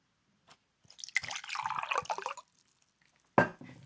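Mineral water splashes and gurgles for about a second and a half, fairly loud, as it is poured into a glass at a restaurant table, then a sharp clink or thump follows after a brief quiet.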